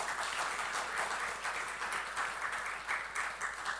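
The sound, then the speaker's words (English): A crowd claps steadily to congratulate a man who has just completed flight school and earned his wings, a dense wash of many hands applauding, sustained throughout without any voices standing out. “And he'll be getting, we can clap for that.”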